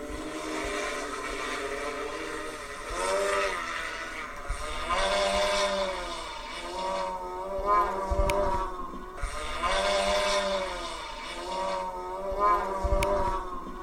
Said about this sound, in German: Tja, und so hört sich so ein fliegendes Auto an? Nicht viel anders als eine Drohne, finde ich persönlich, aber hören Sie selbst.